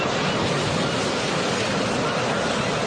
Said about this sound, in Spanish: para que las únicas olas que escuches sean las del mar.